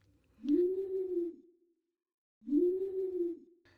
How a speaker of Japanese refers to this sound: どこからかフクロウと思われる鳴き声がして、あなたははっと意識を取り戻す。